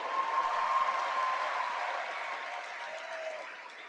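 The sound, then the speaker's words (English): A large audience of Christians United for Israel, at its night honoring Israel in Washington, D.C., applauds steadily during a speech by Israeli ambassador to the United States Ron Dermer, a dense wash of clapping that holds at an even level and fades slightly toward the end, with no one speaking over it. “Applause.”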